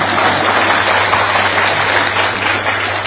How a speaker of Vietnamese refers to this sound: Vậy tặng thưởng cho chúng ta tràng pháo tay đi.